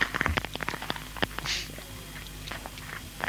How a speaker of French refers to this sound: une feuille de papier que tu mâchouilles, ça fait du bruit